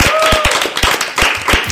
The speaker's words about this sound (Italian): Olè, fantastico, grandi applausi in sala.